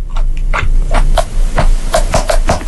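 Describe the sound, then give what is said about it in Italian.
Noisy, wet chewing with crisp crunching bites, about ten in quick, uneven succession over a steady low hum. No one speaks. “Il cibo, perché è quello più virale. Il gente cibo. Che mangia. Gente che mangia.”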